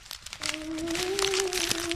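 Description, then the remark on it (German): Irregular rustling and crinkling, like something shifting through paper or plastic, comes from a corner behind cola crates, running for a couple of seconds over a faint, steady tonal hum. “Da raschelte doch etwas.”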